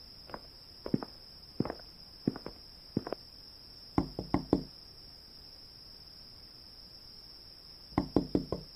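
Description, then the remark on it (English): A few spaced thumps, then two bursts of three firm knocks on the door of a man's home a few seconds apart, with no answer in between and a steady high-pitched whine in the background. “You think he knows I'm here and that's why he isn't answering the door?”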